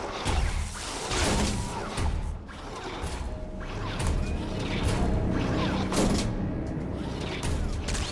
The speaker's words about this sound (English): The ship's lights flicker in the corridor. Stamets holds up his flashlight and squints. A door opens and shuts on a disembodied boot.